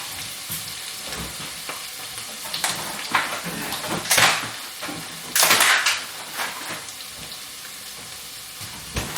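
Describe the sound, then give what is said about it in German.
Onions sizzle steadily in a frying pan, a dense hiss and crackle with brighter bursts of louder spitting, like the onions being stirred or the heat flaring, and no talking. “So, meine Zwiebeln sind drin.”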